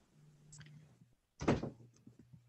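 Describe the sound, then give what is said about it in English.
A door shuts with a single solid thud, fairly loud, preceded by a faint shuffle and set against a low, steady background hum. “close that door, please”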